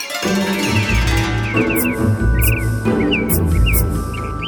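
Repeated bright bird chirps and tweets ring out in quick bursts over steady, full instrumental music with a deep pulsing bass, the calls fairly clear.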